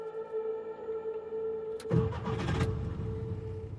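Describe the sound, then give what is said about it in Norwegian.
A car engine cranks and catches partway through, settling into a steady low rumble, following a quiet idle hum; no voices. The car is started to drive west, fleeing the advancing Russian army. “Det var med blandede følelser vi satte oss i bilen og kjørte vestover.”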